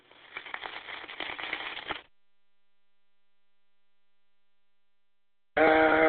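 Sausage and hash browns sizzle in a frying pan as dinner is cooked, a dense crackling hiss with small pops for about two seconds. Silence follows, then a loud, steady tonal sound cuts in at the end.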